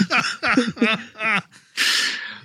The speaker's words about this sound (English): Now I'm coughing and I can't stop.